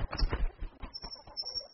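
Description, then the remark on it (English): A bird calls with a quick series of soft, low, cooing pulses in an uneven rhythm, moderately loud, with no talking. “Oh, hello, bird. What's your name? Tweet, tweet.”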